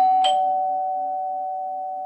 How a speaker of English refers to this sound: It's been a while since I used the doorbell, but I've got more to say today.